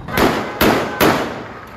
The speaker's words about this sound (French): Avec ces coups de feu en l'air enregistrés par notre journaliste à Deir el-Balah, c'est dans le centre de Gaza,